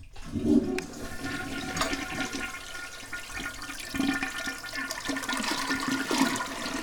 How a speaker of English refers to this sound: I just had to flush it on her again because she was trying to climb in there.